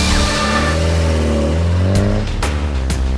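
A car engine revs loudly, its pitch climbing and dropping through several sharp gear-change bursts, with no voices.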